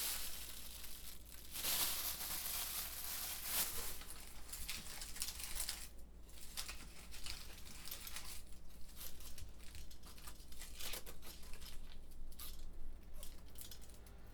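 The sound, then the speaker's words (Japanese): Dry onion skin being peeled while preparing vegetables for cooking: papery crackling and crinkling carries on throughout, with sharper tearing bursts early on and softer rustles after, no voices. “で、玉ねぎの皮を剥いていると、小さい頃玉ねぎの皮が無限に剥けるものだと勘違いしていたことを思い出します。”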